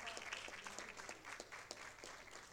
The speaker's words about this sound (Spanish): Fuerte los aplausos para el equipo médico del Hospital de Clínicas.